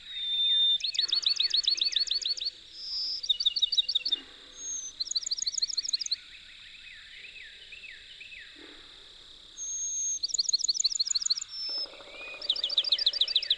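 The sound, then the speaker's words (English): A Bachman's sparrow sings clear, sweet phrases, each a sustained whistle followed by rapid trills, repeated several times, with other soft bird calls in the background and no talking. “Moving on, we come across a Bachman sparrow, singing exquisitely beautiful songs.”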